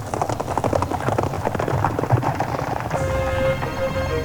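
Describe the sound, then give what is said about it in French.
Horse hooves clip-clop in a quick, steady rhythm of sharp knocks for about three seconds as a knight leaps into the saddle, then give way to a sustained tonal hum with a faint trailing rumble. “et le chevalier saute en selle, tenant toujours sa tête sous son bras.”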